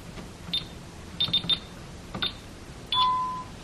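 Several short, high-pitched beeps sound at uneven intervals as buttons are pressed on a security alarm system keypad, entering the code and then 9 to turn the chime off, followed by a longer, steadier confirmation tone at the end. Clear, with no talking.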